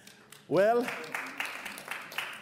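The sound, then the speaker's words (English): A voice calls out briefly, then scattered audience applause follows, a loose patter of claps at moderate volume that keeps going without settling into a steady rhythm. “Well, before you applause, I just want you to know,”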